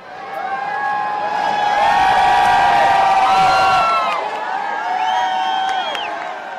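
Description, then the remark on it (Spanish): A crowd of supporters cheers loudly and continuously, with overlapping shouts, whoops and scattered applause rising to a peak midway before easing slightly, all heard from within the crowd, as the presidential helicopter Marine One leaves a medical center and flies over Washington at dusk. “así lo quiso poner en escena anoche al salir del centro médico caminando hacia el helicóptero presidencial, el Marine One, que surcó los cielos de Washington al atardecer entre aplausos de sus seguidores.”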